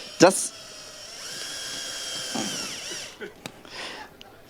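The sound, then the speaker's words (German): A power drill whirs for about two seconds, its motor pitch wavering as it drives a screw, followed by a couple of brief clicks and faint voices. “Passt der Bit dazu? Also mir wurde mal als Kind beigebracht, wie man... Bitte schon reindrehen.”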